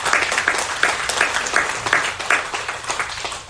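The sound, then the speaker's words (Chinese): A church audience claps together to give glory to God and thank the church, in steady, dense applause, many hands overlapping into a bright, continuous patter with faint rhythmic accents, fairly loud and sustained throughout without any talking. “我们一起来拍手荣耀归给我们的神，也谢谢我们的教会好吗？”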